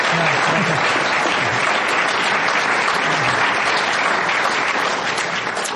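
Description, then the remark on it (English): Sustained applause from an audience for the panelists at the close of an Inforum and Commonwealth Club meeting, a dense, steady wash of many hands clapping at an even loudness for several seconds, with faint voices murmuring underneath. “Well, let's get a round of applause to our panelists here.”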